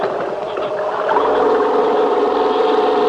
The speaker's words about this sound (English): It was getting dark by the time we had everything connected and the generator ready to go.